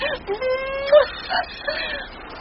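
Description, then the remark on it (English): A puppy yips and whines in a few short, high-pitched bursts, one drawn out and rising in pitch, with brief pauses between the cries. “I'm sorry, wee puppy, but I can't do it to you.”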